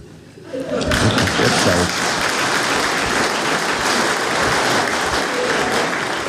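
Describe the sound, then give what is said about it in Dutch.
A crowd bursts into steady, dense applause that swells within the first second and keeps going at full strength, a continuous loud patter of many hands clapping. “Je klapt.”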